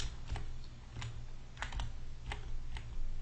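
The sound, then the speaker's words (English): About six crisp clicks of computer keyboard arrow keys being pressed at an irregular, unhurried pace to move an element with the move tool in image-editing software, over a steady low electrical hum with no talking. “And I'm going to use my arrow keys again to move this around.”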